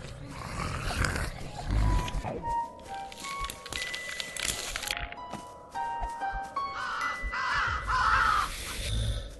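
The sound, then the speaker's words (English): Harsh raven caws ring out several times, loudest near the end, over a dense, noisy background of rumbling and clattering, with no one speaking. “Duck under the thing. Or the raven.”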